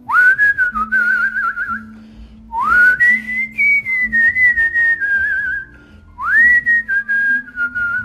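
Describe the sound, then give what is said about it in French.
Someone whistles a tune in three sustained phrases, each starting with a rising swoop and then wavering with vibrato, clear with no talking. “Parce que moi, j'ai un talent incroyable que je vous ai peut-être jamais dit, je siffle à la perfection.”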